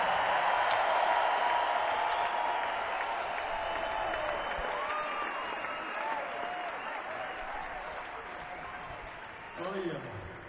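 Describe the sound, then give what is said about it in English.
A concert audience applauds and cheers steadily for the show's crew of sound, video, lighting and instrument technicians, a dense wash of clapping with scattered whistles and shouts, slowly fading over ten seconds before a brief louder burst near the end. “So let's hear it for the best crew on the planet.”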